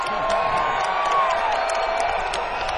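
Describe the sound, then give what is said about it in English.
A large crowd claps and stomps in a steady, loud din, with scattered cheers and a brief whistle rising above the noise. “You guys got to clap and stomp”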